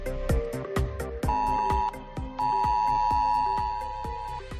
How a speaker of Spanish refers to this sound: Lo cierto es que anoche volvió a sonar esto en todos los móviles en los que se activa la alerta roja, ese mismo sonido que hace 15 días sonó demasiado tarde.